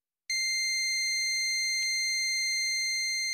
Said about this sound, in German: Und zwar beim Bekämpfen vom Tinnitus, dem Sausen im Ohr, dem Geräusch, das einem fast verrückt macht, das Hunderttausende von Menschen in ihrem Kopf haben.